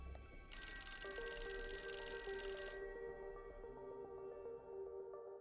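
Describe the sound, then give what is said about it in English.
A house telephone rings as a lieutenant calls. A bright, buzzing trill gives way to a steadier, lower ringing tone, with no voices present. “When he called the Leninger's house, Mrs. Leninger picked up the phone.”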